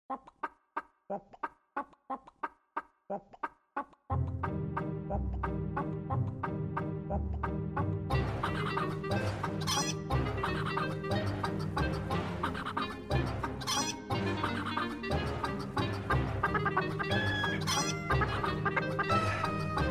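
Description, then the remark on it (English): A rhythmic run of chicken clucks opens alone, then an upbeat dance track kicks in with heavy bass and drums, the clucking continuing as part of the loud, busy music, played for a dance break. “Does anyone know how to do the funky chicken?”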